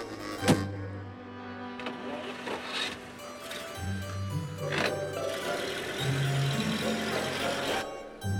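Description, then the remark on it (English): A limousine's engine hums low and steady, with a sharp thump near the start and mechanical whirring as the limousine drives off, with faint, indistinct voices in the background. “It's a limousine with Tiffany.”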